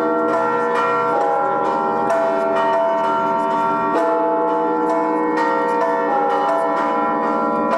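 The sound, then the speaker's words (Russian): Church bells peal continuously in Penza as domes are raised onto a cathedral, several overlapping tones ringing in a dense, rhythmic cascade with strong sustained resonance, loud with no voices. “Купола поднимали под колокольный звон.”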